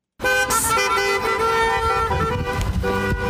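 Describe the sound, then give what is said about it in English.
Car horns honk loudly and continuously in busy street traffic as supporters encourage protesters on the corner of North Clark Street and East 4th Street, their steady tones overlapping for a few seconds with a background rumble of passing vehicles. “They were encouraged by supporters through honks and waves.”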